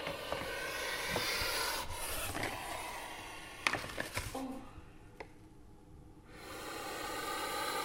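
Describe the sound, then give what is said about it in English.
A snake hisses loudly in long breathy bursts as its cage is opened, with a few sharp knocks and scrapes as it bites the microphone partway through, and a brief lull before the hissing resumes. “The snake just bit the microphone.”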